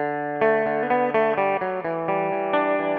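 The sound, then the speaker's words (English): A six-string guitar plays a riff: a quick, steady run of bright, ringing picked notes, each sustaining into the next, loud and clear with no voices over it. “And here it is on 6th string.”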